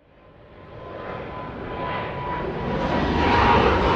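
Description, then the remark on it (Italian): The engines of an Airbus 321 jet airliner, the 3 p.m. flight to Toronto, roar steadily, growing louder over a few seconds as a broad, rushing drone builds, with a faint whining tone running through it and no voices. “L'Airbus 321 delle 15 per Toronto.”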